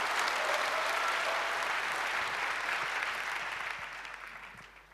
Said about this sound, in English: A warm applause, please. Thank you.